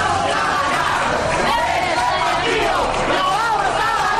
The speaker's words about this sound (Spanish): Y atención, porque se oye, escuchen, el aliento de todos los balcones. Los aplausos de todo un país que está detrás de nuestro equipo.